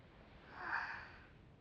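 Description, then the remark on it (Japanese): A single soft, slow breath swells and fades over about a second, heard over a telephone from someone just waking up, with faint background hiss and no talking. “先生、なんだか電話口から物音が聞こえてきませんが、聞こえてくるのは先生の穏やかな吐息ばかり。”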